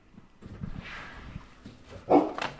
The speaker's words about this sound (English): It's been 8 years. There's a new dog. Ugly.